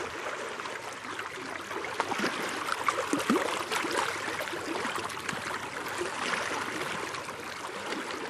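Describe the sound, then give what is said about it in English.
A small boat pushes through reeds on Loch Ree in Ireland, with a continuous swishing and brushing rustle mixed with gentle trickling and lapping, steady throughout with a few sharper scrapes. “Even when we're going through the reeds here, he's sniffing all the time.”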